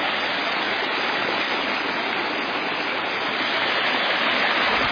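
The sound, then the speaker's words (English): Steady, dense splashing of water pouring into a garden pond, a continuous rush with no breaks for the whole stretch, heard alone without any voices. “And a pond here.”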